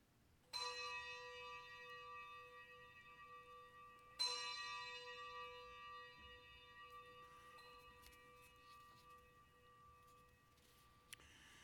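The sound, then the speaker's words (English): Two resonant bell strikes, several seconds apart, each leaving a long shimmering ring that slowly fades, with a faint extra tap near the end; no one speaks. “Let us ring the bells of acceptance.”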